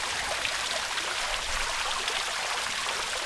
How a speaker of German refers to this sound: Im Garten plätschert ein Springbrunnen. Inmitten von niedrigen Buchsbaumhecken, gepflegten Rasenflächen und hochstämmigen Rosen in Weiß und Rot.